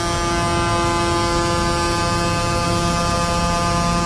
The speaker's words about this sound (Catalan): Són els tocs de botzina dels tractors en passar per davant de la fàbrica Agama que han fet sonar de manera simbòlica les crítiques a les retallades de la política agrària comuna i a l'acord amb Mercosur.